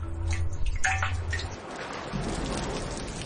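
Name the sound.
running water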